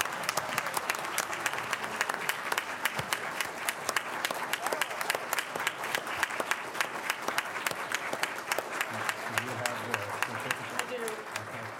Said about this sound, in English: And so let's all give Everett a round of applause. Congratulations. Woo-hoo!